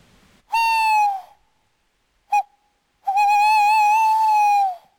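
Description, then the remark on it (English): A person imitates an owl's hoot by blowing through cupped hands to try to draw owls closer: a steady hollow note, a pause, a quick short hoot, then a long wavering hoot, clear with no talking. “I'm going to do a little owl mimic. I'm going to hoot through my hands and see if that'll draw them in a bit closer.”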